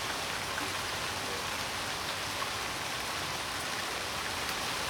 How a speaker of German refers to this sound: Und damit man das vielleicht an den Geräten, an den mobilen Endgeräten nachvollziehen kann, ganz kurz mal drei Sekunden Schnauke halten, dann kann man den Regen vielleicht hören.